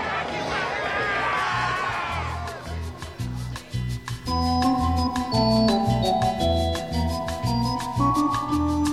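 A football crowd cheers and yells loudly for a couple of seconds, then a brassy band tune with a steady pounding drumbeat takes over amid the lingering stadium noise.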